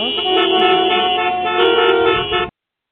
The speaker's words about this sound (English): sounds like I'm in traffic, doesn't it? Well, I'm not. Okay, there we go. There we go. Hopefully it stops. That was the noise of traffic.